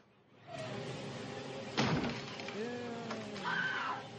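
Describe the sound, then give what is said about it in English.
A single loud, splintering crash of an axe smashing through a wooden door, sharp, set against a steady background of sustained tones and faint voice-like sounds. “Coming through the door with the axe.”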